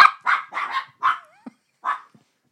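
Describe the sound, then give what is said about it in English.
A dog named Bert barks five times in short, uneven bursts, mid-pitched and fairly loud, with a brief whine between barks and no one talking. “And their beautiful dog, Bert.”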